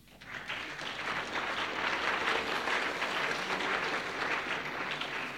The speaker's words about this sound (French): Bravo, on vous applaudit.